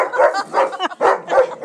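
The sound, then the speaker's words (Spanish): A dog barks inside, four times in quick succession, loud, mid-pitched woofs with a slightly whiny, harmonic edge, coming at a fairly steady rhythm with no talking over them. “¿Quién está ladrando dentro?”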